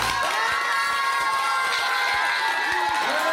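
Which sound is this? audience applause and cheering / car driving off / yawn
audience applause and cheering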